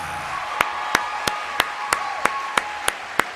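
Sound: applause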